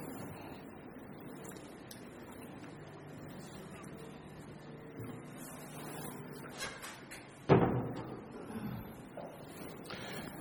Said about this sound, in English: Think to yourself which of these it might be while I just go and push that door to.